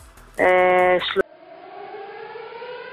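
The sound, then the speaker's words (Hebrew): A Home Front Command rocket alert siren for Ashkelon, warning of rocket launches: a loud, harmonically rich alarm tone blares for under a second, then gives way to a fainter, steady sustained tone that continues to the end. “התראות פיקוד העורף. אשקלון. ייכנסו למרחב המוגן.”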